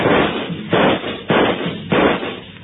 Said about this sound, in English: He took a full volley of shots from 3 police pistols square in the chest.